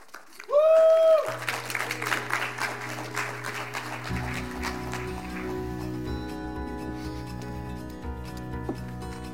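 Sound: audience clapping and cheering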